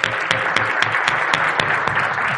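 An audience breaks into steady applause as a person is called up on stage for a fireside chat: a dense wash of many hands clapping at a fairly loud, even level, with sharper individual claps popping out at a quick, irregular rhythm.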